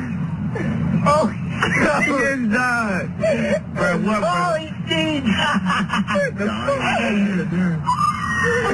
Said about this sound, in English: So again, you'll hear some of the commentary from these guys in Florida, but then you'll also hear the man screaming out as he takes his final plunge under the water.